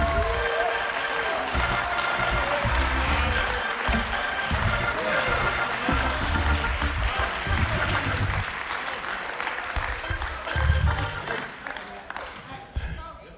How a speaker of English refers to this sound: Oh, you're still up. Then you might as well keep on clapping.